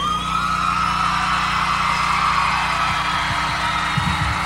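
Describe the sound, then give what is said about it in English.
Women scream continuously in a shrill, wavering chorus that holds steady for several seconds, layered over a low, droning rumble with a few soft thumps near the end. “Oh, listen to those dick-crazed women screaming.”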